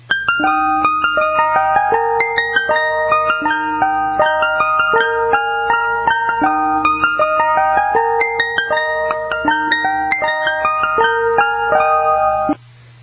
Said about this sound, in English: coming out of that big microphone on top of that ice cream truck, the number one slot, Turkey in the Straw